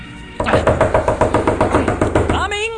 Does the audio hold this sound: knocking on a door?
yes